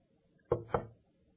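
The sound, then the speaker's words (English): Two quick, sharp knocks on a wooden door, landing about a quarter second apart before silence returns. No one speaks. “the Shulamite maiden, who is a type of the church, who hears a knock at the door after she has bathed and gone to bed.”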